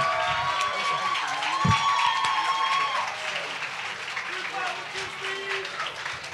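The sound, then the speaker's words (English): A crowd applauds steadily for Steve Stout for several seconds, the clapping dense, mixed with scattered cheers, whoops and a few high whistles rising over the noise. “Let's clap for Steve Stout.”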